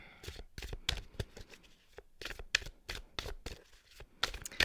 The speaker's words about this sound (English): Let's shuffle this deck.